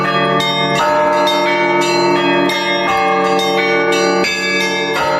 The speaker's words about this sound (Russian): потенциал вообще вот привлечения людей к духовности у колокольного звона